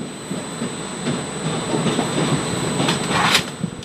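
A TESS fire-fighting and rescue train of the Bienne sector, with a roof-mounted fire cannon, rolls along the rails with a steady, dense rumble, faint rhythmic wheel clacks and a thin constant high whine, swelling slightly near the end. No one speaks.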